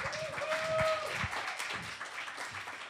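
An audience applauds as the next speaker is welcomed. Many hands clap in a dense, steady, fairly loud wash, with a brief whistle-like tone and a few faint voices mixed in.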